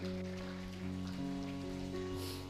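A church audience gives a clap offering to the Lord in a steady, dense wash of applause that never lets up, while sustained keyboard chords hold underneath. No one speaks.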